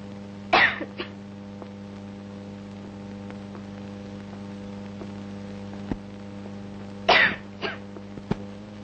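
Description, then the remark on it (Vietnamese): Two short bouts of coughing several seconds apart, each a sharp cough followed by a smaller one, over a steady electrical hum with no talking. “Em có đau ốm gì không? Dạ không. Không sao ho?”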